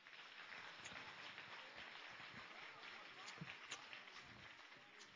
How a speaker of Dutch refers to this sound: Mag ik ze een hartelijk applaus nog een keer geven. De Hoofddorp Pioniers.